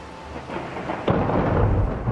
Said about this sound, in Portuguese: As tempestades na floresta, uau! O mistério a desafiava. Por que os raios vêm antes dos trovões? Por quê?